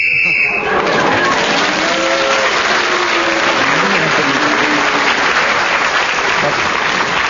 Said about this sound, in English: Well, as you know, when the whistle goes, it tells us that 60 seconds is up, and whoever is speaking at that particular moment gains an extra point